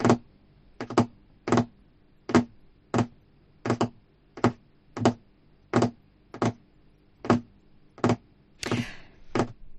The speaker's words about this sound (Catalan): Acabem d'escoltar el soroll d'algú que mastega, el teclejar d'un ordinador i unes ungles picant en una taula.